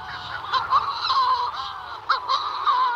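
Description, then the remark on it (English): Raucous, overlapping calls of shearwaters from their high-altitude burrows on top of Halival on the Isle of Rum, around 1 o'clock in the morning, a dense chorus of harsh, wailing and cackling cries with repeated sharper bursts, steady and loud throughout, no talking. “And actually what you've got are these high altitude burrows for the shearwaters.”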